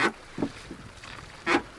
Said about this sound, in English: You can hear the sound of the oars now being pulled. So we pull into the little quay, which is very sheltered.